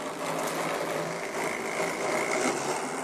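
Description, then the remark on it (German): A mini mobile robot with a constantly rotating LiDAR scanner hums steadily like a moving fan, a continuous whirring drone with a faint tonal whine that holds even for the whole stretch, with no voices. “ARTOR summt wie ein fahrender Ventilator.”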